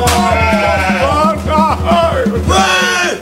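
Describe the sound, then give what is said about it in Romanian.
A flock of sheep bleating loudly and continuously, many wavering calls overlapping, with a steady rhythmic rumble underneath throughout. “Băi, omule, băi! Lasă oile, băi!”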